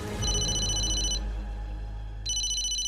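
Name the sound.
phone ringing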